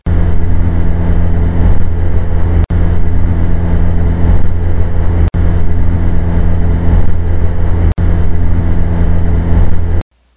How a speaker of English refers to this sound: When you turn that little button on the control that turns the noise canceling on, it just cuts away all of that drone, all of that hum from the engine, and it's so much quieter. So here it is.